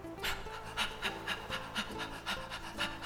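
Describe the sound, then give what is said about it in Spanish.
Rapid, forceful breath of fire breathing: quick, evenly spaced sharp exhales, about two per second, clear, over a soft sustained musical background with no talking. “Ahora podemos hacer respiración de fuego.”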